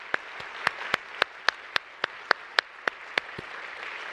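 An audience applauds in thanks to the faculty after an evening discussion, with one loud, steady clapper hitting about a dozen sharp claps in an even rhythm over a softer wash of clapping from the crowd.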